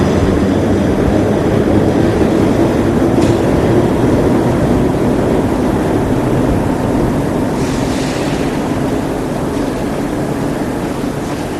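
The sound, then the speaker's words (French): Steady, loud rumble of a metro train in motion on a very short ride, recorded from inside the carriage, with continuous low-frequency roar and occasional brief hisses and squeals over the whole ride. “Sorti du métro, il regarde.”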